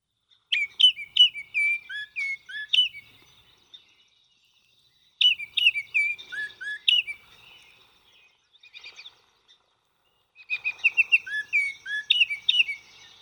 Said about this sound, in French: On peut dire que c'est un très bon chanteur. De qui s'agit-il? Il s'agit de l'Oriole de Baltimore, qui est un oiseau.